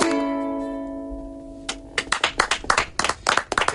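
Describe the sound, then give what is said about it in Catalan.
A final musical chord rings out and fades, then a radio broadcast audience starts applauding, with individual claps clearly audible as the clapping builds toward the end. “deixeu d'aplaudir a la ràdio, eh?”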